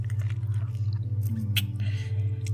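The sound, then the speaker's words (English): Wet, smacking mouth sounds of sucking during oral sex come in soft, irregular bursts over a steady low hum, with one sharper squelch partway through. No one speaks. “As my sucking gets louder.”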